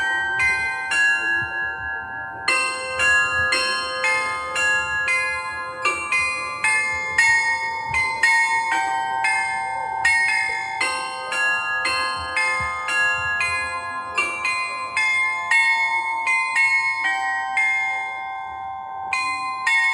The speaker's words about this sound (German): Wo kommt das denn her? Hast du das etwa noch nie gehört? Das ist Glockenspiel am Rathaus.